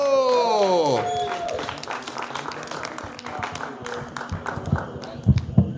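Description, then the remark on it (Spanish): An audience breaks into applause, a dense patter of many hands clapping that carries on steadily for several seconds, with a few louder claps near the end and a falling tone fading out at the start. “Gente, fuerte aplauso”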